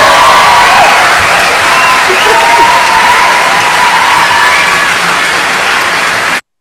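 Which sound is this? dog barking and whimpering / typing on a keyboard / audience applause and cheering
audience applause and cheering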